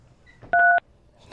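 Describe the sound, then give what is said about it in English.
A single telephone keypad beep from a caller on a phone line, signalling yes, one steady two-toned electronic tone lasting about a quarter second, sounding alone over a faint, quiet background with no talking. “One beep is yes. One is yes. And two beeps is no.”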